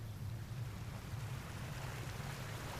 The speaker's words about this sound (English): Fast-flowing water froths white as it ripples over rocks and down into a waterfall. A fine white mist rises from the water as it surges towards the large black boulders below,